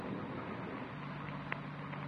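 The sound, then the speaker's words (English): Wind blows steadily outside a parked car in Elysian Park around 5 a.m. as rain starts, with a constant rushing hiss. A faint low drone runs underneath, and one brief tap stands out near the end. No one speaks. “Rain's starting, man. Windy.”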